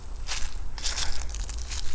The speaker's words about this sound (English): Oh, you can probably tell by the sounds of the high tension power lines crackling that I am in fact at Tranquility Park on the gyro ball side, working my way into my favorite mushroom areas.